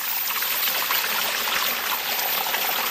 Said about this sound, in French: C'est une région de haute montagne où les ruisseaux descendus des glaciers serpentent entre des pics rocailleux aux sommets enneigés.